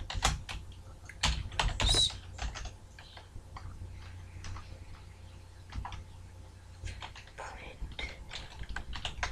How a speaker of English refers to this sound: I'm just typing, you guys, on my external board.